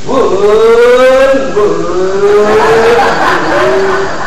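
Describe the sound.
A voice imitates the engine of an old Chevy 2.0 car revving, a sustained buzzing, rising and falling growl that shifts pitch for a few seconds, loud, with no words spoken.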